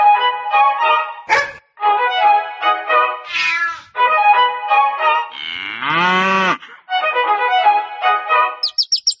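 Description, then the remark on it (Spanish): A cow lets out a loud, drawn-out moo with a rising and falling pitch, set among a quick string of other animal calls, including cat meows, with no talking. “El perro ladra, el gato maulla, la vaca muge, los pajaritos pían.”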